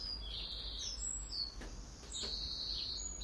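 robin singing

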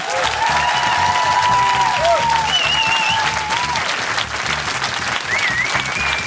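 audience applause

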